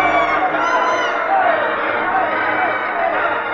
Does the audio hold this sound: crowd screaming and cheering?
yes